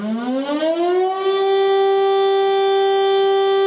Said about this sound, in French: Et subitement se mit à retentir la sirène du canot de sauvetage.